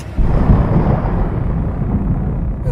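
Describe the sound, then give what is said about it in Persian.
A heavy, continuous low rumble of thunder rolls through a stormy wash of noise, loud and sustained for a few seconds without any voices. “آوای توفان رسید.”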